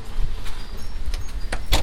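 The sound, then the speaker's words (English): A door is wrenched open outdoors against gusting wind on a cold day, with a roaring low rumble throughout and a few sharp clunks and rattles of the door moving. “Ooh, I can't even hardly grab the door. I'm just pulling it right out of my hands here.”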